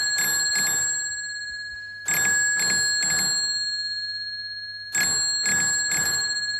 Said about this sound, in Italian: cioè questo suo oggetto che se da una parte tocchi un tasto telegrafico, dall'altra parte c'è una scatola magica dove un campanello suona tutte le volte che tocchiamo questo tasto.